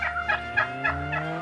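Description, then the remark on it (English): A turkey gobbles in a rapid rattling burst, five quick warbling pulses over about a second and a half, fairly loud above a low steady hum, with no one speaking. “The turkey just stole my car.”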